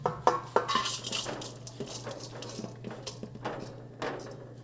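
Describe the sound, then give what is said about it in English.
Garlic and breadcrumbs sauté in a pan: a steady sizzle with a low hum beneath, broken by sharp clinks and scrapes of a utensil against the metal. No one speaks. “All right, now I'm going to take the garlic and breadcrumbs out of the pan, but we're going to use the same pan to saute everything together.”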